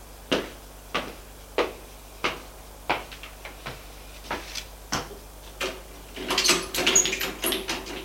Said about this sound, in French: Voilà votre chambre. Il ouvre la porte.